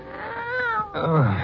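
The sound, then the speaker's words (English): A cat meows twice in quick succession, the second call longer and more drawn out, fairly loud with no talking over it. “Oh, you stuck with me. Oh, thanks, Kitty.”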